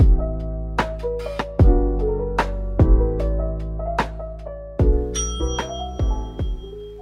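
A quiz contestant rings a bright bell to answer a question, with about a dozen clear metallic strikes in an uneven rhythm, each sustaining and fading over a full low resonance. It is loud, with no voices.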